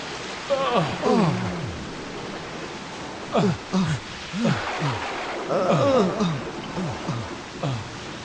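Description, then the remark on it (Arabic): Heavy rain pours steadily as a dense, constant hiss through the whole scene, while voices talk over it in short, animated bursts. “لم أشهد طوال حياتي مطرا شديدا كهذا.”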